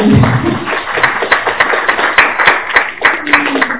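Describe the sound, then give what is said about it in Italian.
A burst of audience applause at a morning event, welcoming two guest speakers: many hands clapping in a dense, steady patter with sharp individual claps standing out, fairly loud throughout with a brief voice at the start. “Facciamo già tutte e due un bel applauso.”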